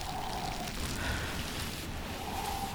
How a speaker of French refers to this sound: Ils repartent, vent et pluie.